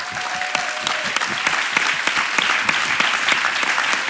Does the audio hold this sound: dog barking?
no